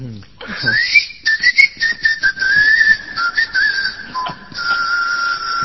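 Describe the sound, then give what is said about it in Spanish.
A person whistles a wavering, breathy tone that rises and dips, imitating wind blowing through small holes an architect placed in the colossal statue of Memnon (Nemón), sustained for several seconds with a few brief breaks, fairly loud. “Otros dicen que era el viento que pasaba por algunos agujeritos que el arquitecto había puesto con toda astucia, y el coloso de Nemón chiflaba.”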